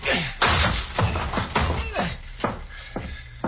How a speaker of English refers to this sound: They're getting into a fight. Break the door down